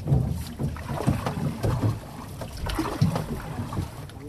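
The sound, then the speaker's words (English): Canoe paddling on the Mississippi River: a few irregular paddle strokes and splashes over a steady wash of moving water and wind noise, with no voices. “If you want to take a canoe trip from Helena, Arkansas, down the Mississippi, in normal times, you just put your boat in the river and go.”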